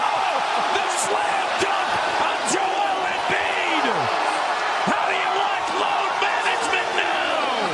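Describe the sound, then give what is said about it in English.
An arena crowd roars loudly and steadily for several seconds after a slam dunk by Kawhi Leonard in a basketball game, a dense wall of cheering with scattered shouts and whoops rising above it. “If you're not watching on CBS Sports Network, it almost doesn't matter because you can hear it. You can hear the thunder.”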